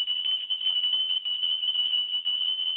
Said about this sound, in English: The way you call your ancestors, you ring a bell to them. Sometimes they can't hear you. You have to ring a bell.